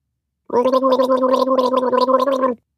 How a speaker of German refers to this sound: steht auf ihrem Hocker vor dem Waschbecken und gurgelt nach dem Zähneputzen.